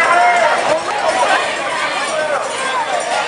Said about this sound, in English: The main body of the crowd retreats, leaving any civil disobedience behind.